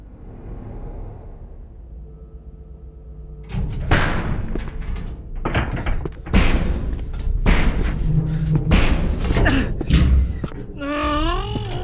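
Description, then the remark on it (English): Heavy banging on a titanium alloy metal door: a rapid, irregular run of loud thuds and clangs after a low droning groan, ending with a warbling electronic tone. “Damn bloody titanium alloy door! Come on! Open, damn it!”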